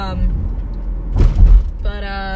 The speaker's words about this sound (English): So I'm recording this in my car, and it's not connected to like my car. I'm just recording it via my phone because I turned my Bluetooth off.